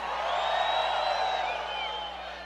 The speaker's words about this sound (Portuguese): O homem que gosta de mulher de verdade, levanta a mão e dá o grito aí.